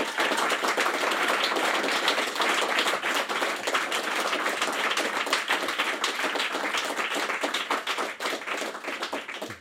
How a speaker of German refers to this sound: Und ich würde zu Beginn gerne mal um einen Applaus für den Herrn Köhlmeier bitten.